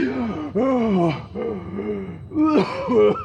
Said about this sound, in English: I gasped for air.